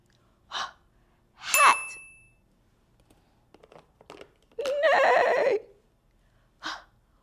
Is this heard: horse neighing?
yes